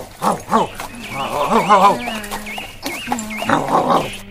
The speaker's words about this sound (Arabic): توقف أيها الحمار، إنه صوت نباح كلب ضعيف.